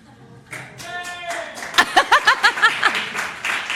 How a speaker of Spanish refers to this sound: Gracias. Aplauden los bosteros. Sí, sí, aplauden los bosteros. Aparte, ¿qué aplauden? ¿Qué aplauden?